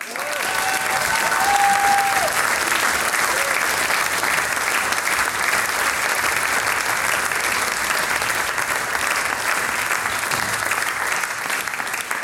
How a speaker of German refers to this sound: Applaus für die Dorfmusi vom Musikverein Unterlamm.